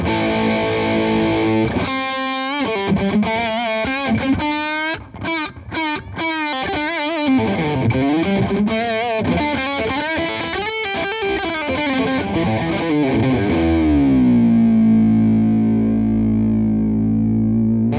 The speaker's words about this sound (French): Donc on va écouter la Dynarock qui est une distorsion modérée de type ampli à lampe, bien bien gros, un gros stack.